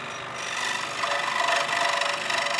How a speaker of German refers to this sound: ist jetzt gerade an der Säge, wie man hört, und schneidet einzelne Holzstücke. Bei der Säge sieht man so eine ganz dünne, lange Klinge, die sich ganz schnell bewegt.